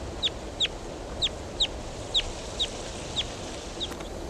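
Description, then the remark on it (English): A wild bird calls in a series of eight short, high, sharp chirps at a steady pace, the last few growing fainter, over a constant hiss of background noise. “There goes a wild bird.”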